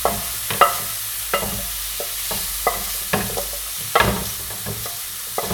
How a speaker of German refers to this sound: So, hier bin ich wieder, mein Grillgemüse ist jetzt schön angeröstet. So, das tue ich jetzt in eine kleine Schüssel rein.